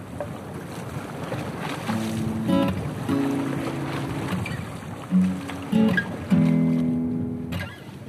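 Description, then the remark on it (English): Waves wash and crash steadily against a cliff in a continuous rough roar, overlaid by intermittent low, droning tonal calls that come and go. No one speaks. “I'm sat perched by the side of the cliff that the waves keep crashing against.”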